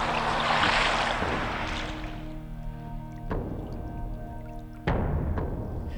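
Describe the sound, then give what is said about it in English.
Men row a boat ashore at Chesil Beach, which stretches 17 miles from Weymouth: water sloshes and splashes, a steady hum runs beneath, and two sharp wooden knocks land a couple of seconds apart. “The men are rowing ashore now, full of hope for the future.”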